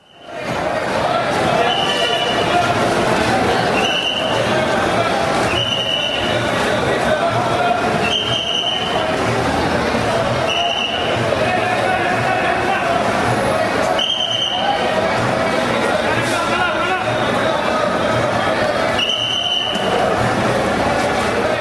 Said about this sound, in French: Basiquement, ce que j'entends des coups de sifflet, j'entends des hommes qui semblent haranguer une foule. On va positionner justement ce paysage sonore. On est dans une gare routière, Saktamthampuram, qui est dans la ville de Kerala